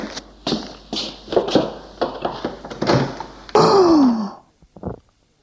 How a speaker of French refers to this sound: Il veut ouvrir une porte.